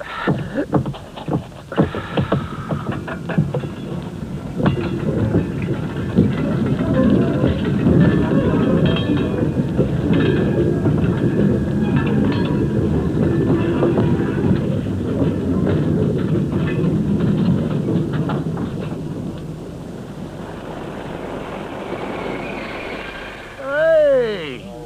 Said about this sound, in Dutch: Helemaal vergeten dat er ook nog wel eens een trein doorkomt, hè?